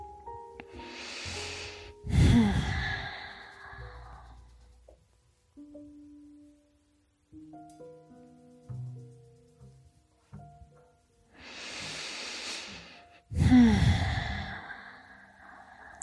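Two slow, deep breath cycles taken during a simple twist exercise, each a soft airy inhale followed by a louder, long sighing exhale, with quiet pauses between.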